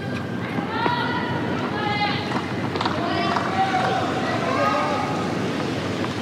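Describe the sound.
Quick footsteps of a ball boy patter across a hard tennis court as he resets himself at the side of the court during a Djokovic–Fonseca match, with short high-pitched shoe squeaks mixed in over a steady background hum and faint murmuring voices.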